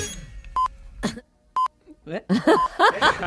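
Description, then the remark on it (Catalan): Two short, steady mid-pitched beeps of the 8 a.m. radio time signal sound one second apart, each clean and bright. Rough vocal noises follow, with a false time-signal beep tangled among them near the end. “Ara escoltareu els senyals horaris de les 8 del matí, però un fals senyal horari s'ha colat.”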